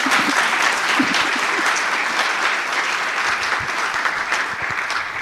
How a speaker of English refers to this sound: So give her a big applause and thank you.